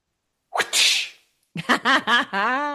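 A voice imitates a whip crack with a sharp, hissing burst, followed by a quick run of sung or chanted vocal sounds. It is fairly loud, with no background noise.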